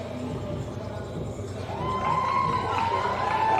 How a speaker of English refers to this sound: A big cheer from her teammates